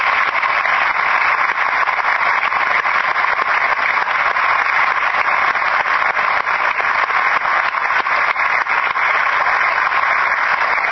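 An audience applauds the local development team steadily for about eleven seconds, a loud, dense wash of many hands clapping that holds an even level throughout, with no voices breaking through.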